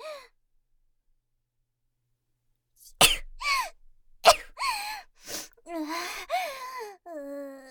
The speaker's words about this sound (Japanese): 普段こんなことしないからただでさえ気持ち悪いのに。人に向かってくしゃみをするだなんて。